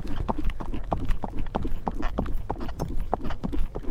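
Steady clip-clop of a ridden horse's hooves trotting at an even rhythm, fairly loud, recorded by a microphone clipped to the rider's belt, with rumbling low noise underneath and no voices.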